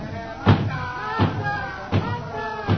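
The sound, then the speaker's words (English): Heavy pounding on a wooden door, four loud, evenly spaced thuds about a second apart, with muffled voices talking underneath. “Stop that pounding and go away.”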